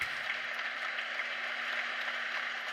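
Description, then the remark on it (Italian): A large crowd applauds in the packed church of San Francesco in Terni, Italy, on 22 February 1986, at a concert by pianist Carlo Palleschi, a dense, steady wash of clapping that holds at an even level throughout with no pauses and no voices. “Qui faccio ascoltare gli applausi.”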